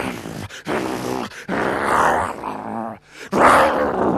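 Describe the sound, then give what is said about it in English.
A big black Rottweiler growls and snarls in several loud, rumbling bursts separated by short breaths, with no other sounds around it. “Now, let's imagine that door was closed, and in that door stands a big black Rottweiler, and he's growling, and he's foam around his mouth.”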